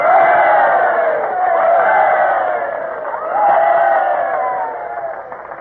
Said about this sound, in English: And now I call for 3 cheers for our president, Mr. Woodrow Wilson.